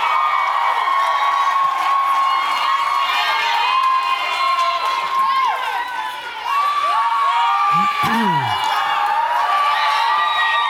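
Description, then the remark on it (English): A large crowd cheers loudly and continuously, with high-pitched screams and whoops rising above a steady roar and scattered applause, sustained for the whole stretch with only a brief dip midway. “Give it up for these guys.”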